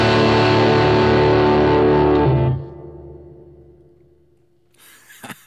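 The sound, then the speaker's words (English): A loud, fuzzy electric guitar chord played through a distortion pedal, live on KUTX radio, rings out thickly for a couple of seconds, then fades into a low hum, followed by a few faint scratchy noises near the end. “I got a distortion pedal.”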